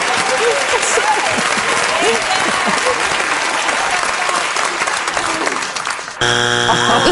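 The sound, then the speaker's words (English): Loud crowd applause and cheering for about six seconds, then a harsh, steady electronic game show buzzer blares abruptly at the end, with strong harmonic tones. “They waited for the buzz.”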